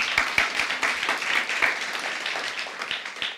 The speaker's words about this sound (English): I think you were clapping